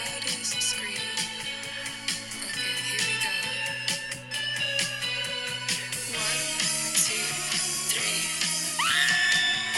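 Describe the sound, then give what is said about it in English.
A loud, dense rock song in which the female singer holds a long, sustained scream over the driving music, filling the whole stretch at a steady high volume. “Okay, so there's this bit where she goes, I've been practicing my loudest and longest scream.”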